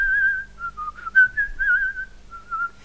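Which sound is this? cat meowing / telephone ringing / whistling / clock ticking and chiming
whistling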